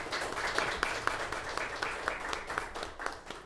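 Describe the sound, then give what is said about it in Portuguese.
An audience applauds steadily for a priest at a session welcoming church authorities, with many overlapping hand claps forming a dense, crackling wash at an even level throughout, with no voices over it. “Novamente, uma salva de palmas para o...”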